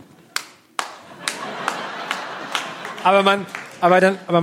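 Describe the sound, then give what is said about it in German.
A person claps their hands in a slow, steady rhythm, about half a dozen crisp claps, illustrating clapping while standing up in a plane after landing, and a voice breaks in briefly near the end. “Klatschend aufstehen.”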